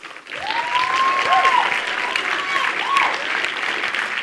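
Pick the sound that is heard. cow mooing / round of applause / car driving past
round of applause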